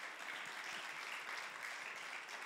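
Sustained applause from a crowd, a dense, steady wash of many hands clapping at an even loudness throughout, with no voices rising above it.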